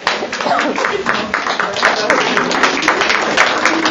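A standing crowd at an award ceremony for a teen essay contest welcomes the contestants, clapping steadily for about four seconds, a dense, even wash of many hands with no pauses or build. Faint voices mix in beneath the clapping.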